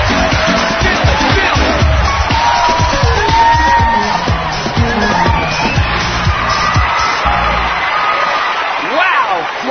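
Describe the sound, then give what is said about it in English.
A large arena crowd cheers and shouts steadily as a pair winds up their routine, a loud, dense roar of many voices with scattered whoops and higher calls rising above it, never pausing across the whole stretch. “This pair is willing the crowd into a frenzy.”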